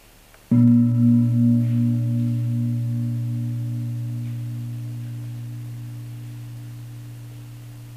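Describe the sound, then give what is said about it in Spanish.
A single meditation gong is struck to mark the move into the next phase of the meditation, ringing with a low, steady tone that pulses gently as it slowly fades across several seconds, with no voices. “Y al sonar el gong, pasamos a Pacaya Pariga Hanana.”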